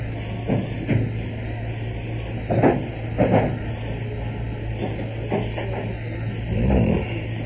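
A wooden dresser drawer slides and knocks in a few short, scraping bursts as someone opens it to take out a gun, over a steady low background hum; no one speaks.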